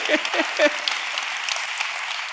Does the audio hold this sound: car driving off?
no